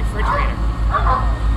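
A dog gives two short barks about half a second apart over a steady low mechanical hum from a machine.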